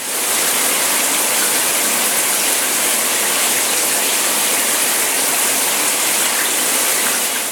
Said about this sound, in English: Shower.